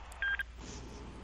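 A quick burst of electronic phone-line beeps from a caller's line as the call drops, a steady mid-high tone pulsing briefly and fairly loud, then fading into a low hum of line noise.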